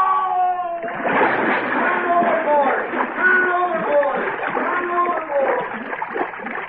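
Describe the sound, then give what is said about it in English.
A man's shout gives way to a heavy splash as he falls overboard over a rail into water, followed by steady churning and thrashing of water while voices cry out over it. “Help! I fell in!”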